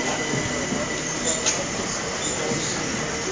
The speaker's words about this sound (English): It's quite windy here. Probably hear the wind in the microphone. But I'll just go quiet for a second and just pick up some of the background ambience of trains and so on.